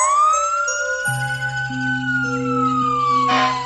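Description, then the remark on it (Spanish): A police patrol car siren wails steadily, its pitch sweeping slowly up and then falling, loud, with a low engine-like hum joining underneath partway through. No one speaks. “Manden la patrulla ahora mismo para la casa de la abuelita que atrapé el lobo robando.”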